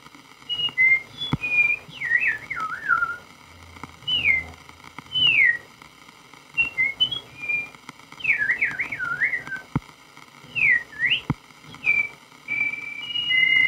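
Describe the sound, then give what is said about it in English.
A person whistles an imitation of a meadowlark's song: repeated phrases of clear, high, warbling notes that slide and trill, rising and falling, with short pauses between phrases, with added reverb. “Meadowlark.”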